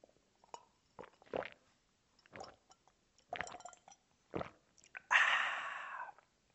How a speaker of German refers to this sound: Ja, zum Wohl. So, jetzt könnt ihr auch sehen, Wasser. Ja, und ihr trinkt auch alle mal bitte einen Schluck Wasser, damit ihr eure Schleimhäute befeuchtet.